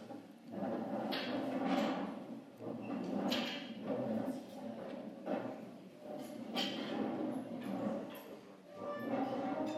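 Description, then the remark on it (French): Chairs scrape and knock as they are turned and shifted across the floor to form small groups of four to six for prayer, a continuous shuffle of wooden bumps and drags with a room full of quiet murmuring underneath. “Alors vous pouvez tourner les chaises, faire des petits groupes de 4, 5, 6, et puis on peut prier un moment pour nos frères et sœurs.”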